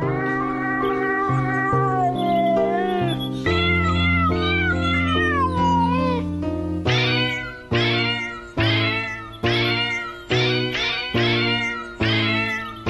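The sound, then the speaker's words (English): Cats meow continuously in a dense, layered played recording, the meows pitched and strung together like a melody, with a steady rhythmic pulse of repeated meows in the second half. Loud, no talking. “If you have a cat at home, bring the cat into the room and see how it reacts to this.”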